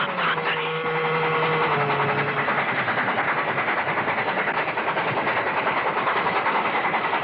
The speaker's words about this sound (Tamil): ரயில் நெருங்கிக் கொண்டிருந்தது.